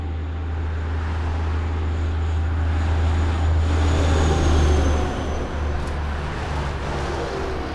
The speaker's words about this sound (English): Today, the sound of children has been replaced by tractor trailer trucks rumbling and screaming by.